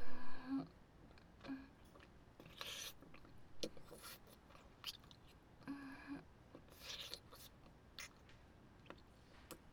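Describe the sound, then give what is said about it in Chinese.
Soft papery dabbing as wet paper, too wet to keep writing on, is blotted dry, several brief pressing bursts spaced irregularly over a quiet background, with no talking. “真糟糕，连纸都被弄湿了，这样就不能继续写字了。没办法，姐姐就帮你吸干一点了。”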